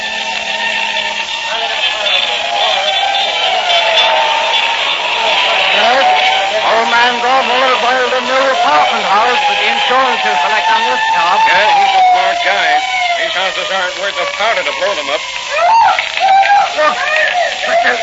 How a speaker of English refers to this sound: Oh, there go the fire engines. That's my exit cue.